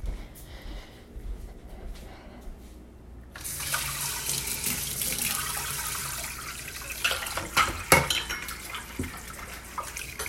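tap water running

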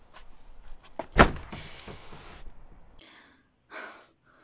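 door being shut

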